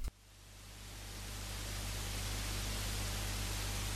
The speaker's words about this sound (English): Since Norway is the only country to abandon its FM infrastructure and switch to digital audio broadcast, most of the Bergen FM dial is static.